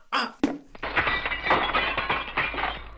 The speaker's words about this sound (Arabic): وفي إحدى الضربات التي قام بها قاسم للكرة، أصابت الكرة زجاج الشباك وكسرته.